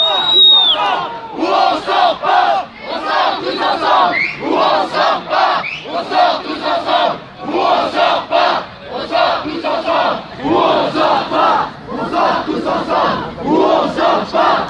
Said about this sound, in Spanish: La gente está gritando que salimos todos juntos o no salimos.